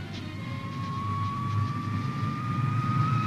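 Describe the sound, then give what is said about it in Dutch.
A Fokker Friendship turboprop airliner of an Irish airline departs Schiphol, droning steadily with a sustained whining tone that slowly rises in pitch, over a low engine rumble that grows slightly louder. “De toestellen die nu Schiphol verlaten, zullen er geregeld terugkerende bezoekers worden.”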